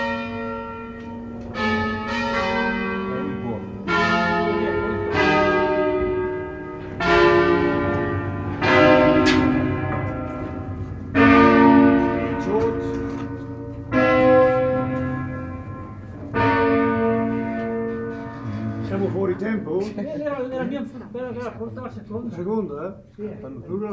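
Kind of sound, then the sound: signal or alarm, church bell ringing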